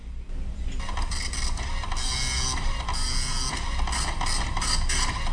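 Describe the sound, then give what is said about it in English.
A printer runs continuously at high speed printing 150 pages, its mechanical whirring and rhythmic clatter steady throughout, with no voices present. “150 pages. I wish my printer was so fast.”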